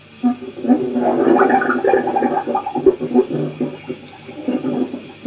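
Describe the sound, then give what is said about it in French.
Bubbles of heated, released gas gurgle and burst up to the surface through liquid in a steady, churning stream, with deep glugging pulses and uneven surges of loudness, continuing without pause and with no voices present. “Aboiement des bulles libérées. les gaz échauffés renvoyés en surface.”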